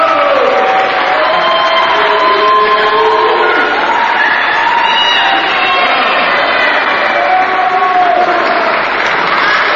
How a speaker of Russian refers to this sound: Снится огромный, небывалый успех. Гром аплодисментов. Венки. Картины цветов. Бурные овации. Публика без конца вызывает их.